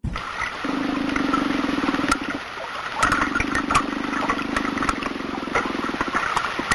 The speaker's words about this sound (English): Did you hear that? Yeah, it kind of sounded like water lapping. Well, there was water lapping, and then there was like a little sound underneath it. Like underneath it.